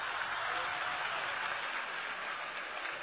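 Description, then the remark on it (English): Sustained applause from a crowd, a dense, even wash of many hands clapping at once, steady and fairly loud throughout with no voices standing out. “Can you clap better than that?”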